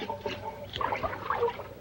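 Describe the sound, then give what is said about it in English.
Water from a hose washing down a greenhouse floor gurgles and trickles steadily, a wet splashing with small bubbling pops as it carries blood away through the drain in the floor. No voices. “The water carries Mary's blood to the drain in the floor.”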